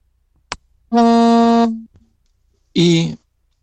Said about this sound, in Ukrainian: Ну, продовжуйте катехизу, просто це перешкода, коли вам телефонують на телефон, то чутно, як працює. Якщо є можливість відмінити цей дзвінок, вийти туди, де телефонують вам, і натиснути червону кнопку. Відхилити дзвінок, адже чутно вібрацію телефону.